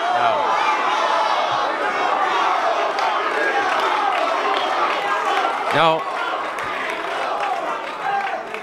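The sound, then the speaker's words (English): A large crowd in a hotel ballroom boos during a recall election concession speech, after mention of a call to Arnold Schwarzenegger, in a loud, sustained roar of many overlapping voices that holds steady for several seconds, with a brief swell partway through. “He raised his hand to quiet the crowd as the booing started to swell.”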